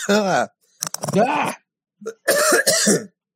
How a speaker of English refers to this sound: Just coughing the water.